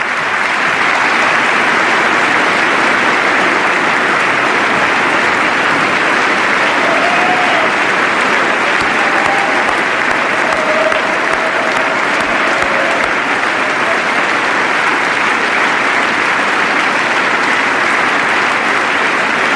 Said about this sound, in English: By far the most prolonged applause of this State of the Union address